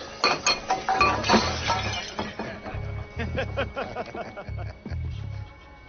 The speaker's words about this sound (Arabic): تناثر الزجاج في المكان.